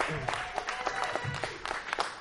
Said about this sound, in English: Let's just hear a round of applause to have everybody in the same room celebrating something so amazing, right?